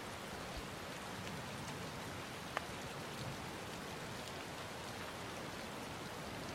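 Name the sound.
rain falling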